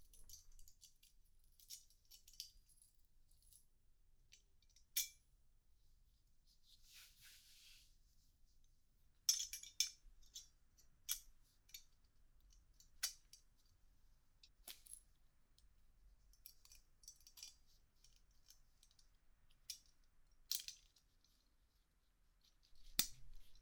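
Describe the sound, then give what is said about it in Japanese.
Small metal parts of a chastity device clink and click as it is being fitted, a scattering of sharp, light taps at irregular intervals over near silence, with no voices present. “ただいまより低層体を装着する。”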